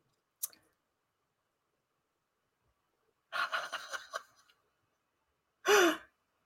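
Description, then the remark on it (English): A single sharp tick, then a second-long flurry of pencils falling and clattering, followed by a short breathy sigh; no talking. “Oh, shoot. I'm losing all my pencils.”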